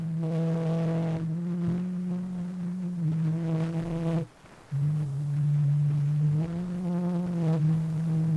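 The oldest surviving sound recording in the world, made by Scott de Martinville in Paris on 9 April 1860: a very old, crackly recording of the French children's song "Au clair de la lune", a thin, buzzy voice holding long, steady notes through constant hiss, with one brief gap in the middle.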